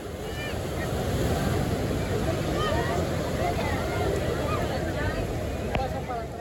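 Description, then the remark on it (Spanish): Waves break on a beach beside a border wall in a steady, continuous roar of surf, fairly loud, with faint high chirping calls scattered over the rushing water. “Lo único que se podía escuchar eran las olas rompiendo en la playa.”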